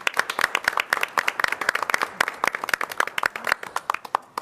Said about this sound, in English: Also wanted to just state gratitude to our former mayor pro tem, Mazahir Salah, and just wanted to give her a great round of applause for all the work that she did on the behalf of the City of Iowa City.